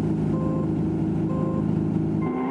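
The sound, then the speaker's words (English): A steady, buzzing engine drone with a harsh electronic tone hums continuously, with short high beeping tones layered on top: the buggy in an unfinished Super Nintendo racing game revving along. “There's only one car to play with at the moment, this buggy.”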